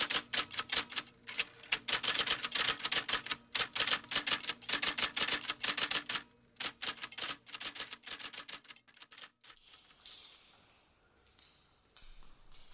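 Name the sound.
typewriter typing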